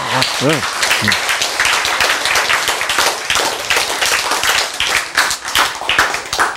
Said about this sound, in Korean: 박수! 크아!